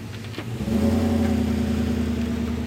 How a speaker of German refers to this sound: Wieder wendet ein Auto kurz vor den orangefarbenen Kegeln auf der Straße. Hier geht es nicht weiter.